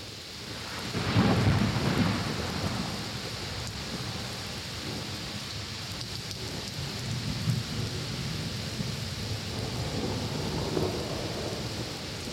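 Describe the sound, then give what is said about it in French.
A heavy thunderstorm in the evening beside the Seine: steady, dense rain pours down while deep thunder rumbles roll through, swelling loudest early on and returning later, with no voices. “Les explosions, les éclairs redoublés, le déluge d'eau.”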